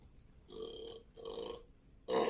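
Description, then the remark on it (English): A drawn-out burp made to the side of a microphone, in a few voiced bursts, each lasting about half a second, with a louder final push at the end. No speech is heard. “As … burps to the side of the mic”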